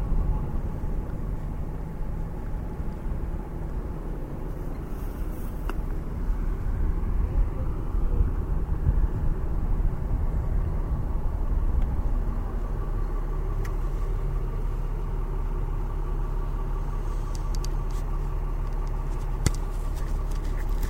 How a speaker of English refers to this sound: So let me see now. We're here at the station. At the Alameda Light Rail Station, where we will purchase tickets to get on the train.